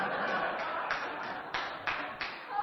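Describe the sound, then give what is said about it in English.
An audience at a church gathering claps after hearing that the Chicago Cubs have won the World Series, a steady, dense wash of applause that carries on throughout, with a few sharper bursts standing out and some crowd voices mixed underneath. “Don't appreciate the clapping.”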